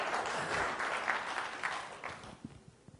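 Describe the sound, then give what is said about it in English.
An audience at a talk claps in steady, dense applause, holding strong before thinning out toward the end with a few scattered final claps. “So we need a bit of rapturous applause from it.”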